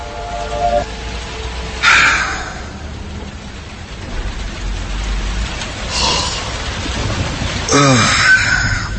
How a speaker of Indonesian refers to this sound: Hingga tak lama dari itu, hujan mulai turun.